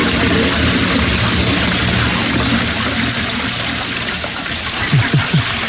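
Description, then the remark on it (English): A toilet flushes loudly, water rushing and gurgling steadily for several seconds before a few sputtering glugs near the end. “A Lincoln museum, flushed with success over their latest exhibition, think they've come up with the answer. A panorama of privies.”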